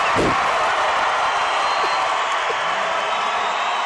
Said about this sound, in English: I can't believe it. Listen to this crowd, the Demons.